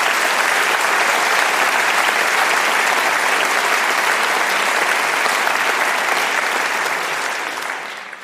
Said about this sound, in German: Ich bitte um Applaus für Frau Professor Thalbach.